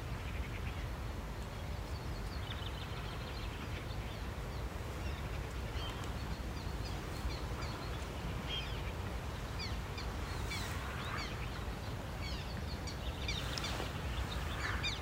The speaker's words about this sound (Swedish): kommer de rätt över oss. Svärthärnorna. Wow. Jättefina är de. Gnälligt och små lätta. Ja. De är som graciösa som fjärilar. De är otroligt snygga när de flyger.